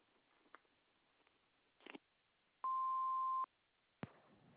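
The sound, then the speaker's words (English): A single loud, steady answering machine beep lasting under a second, preceded by faint clicks and handling noises and followed by a sharp click on a quiet line. “We can't answer your call right now, but we have this nice machine that will be glad to take a short message. Please wait for the beep.”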